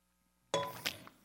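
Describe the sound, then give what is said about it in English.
A glass of drinking water clinks sharply against a hard surface as a speaker drinks, after a moment of near silence, followed by a brief second knock and a faint rattle as it settles, with no voices. “And I apologize ahead of time for drinking water, because whenever I speak, my mouth just gets so dry.”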